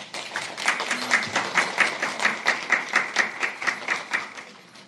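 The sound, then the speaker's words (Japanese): A small audience at a Christian retreat claps steadily to welcome a speaker, with many overlapping hand claps forming a dense, even patter that holds at moderate loudness throughout, with no voices. “拍手を持って先生を迎えしたいと思います。”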